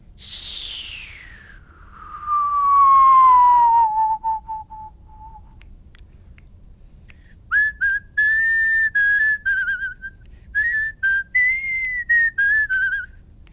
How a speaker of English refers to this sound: So if you've been whistling and you've been hearing this wind noise that's almost whistling but not there, if you whistle downwards, you'll be able to get the note in 5 seconds.